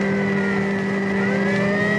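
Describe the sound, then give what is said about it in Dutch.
A car engine roars at full throttle with the accelerator floored, a loud, steady high-revving drone whose pitch climbs slightly toward the end, continuous with no voices. “Ik zit er op de plank.”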